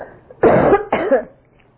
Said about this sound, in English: I apologize for this coughing. Nothing in the world I can do about it. Let me get a little water.